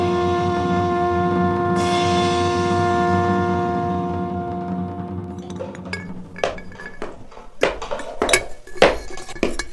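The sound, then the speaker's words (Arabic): Dishes and cutlery clink and clatter in irregular bursts in a kitchen as a cook calls for a plate, sharp metallic knocks building after a sustained low tonal hum fades out, with no voices present. “ناولني ذاك الطبق يا ولد, وهاتني طيور الدراج المذبوحة تلك.”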